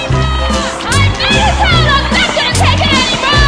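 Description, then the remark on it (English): Many angry voices yell and scream over one another in the street, a loud, continuous jumble of high, rising and falling shouts with no clear words. “They're yelling. Listen. You hear that?”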